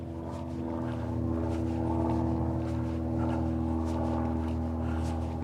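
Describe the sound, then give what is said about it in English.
A low, steady engine drone with humming harmonic tones fills the whole stretch, fairly loud and even, from an airplane flying overhead near Huntsville International Airport. No one speaks. “Can you hear that airplane?”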